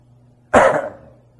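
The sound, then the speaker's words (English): A single sharp cough bursts out, loud and abrupt, then trails off into a brief rasp before quiet returns. “I had to cough at that point.”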